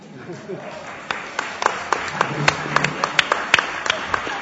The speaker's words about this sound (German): Ja, also ich werde diesen Applaus an unsere 12-jährige Enkelin gerne weitergeben.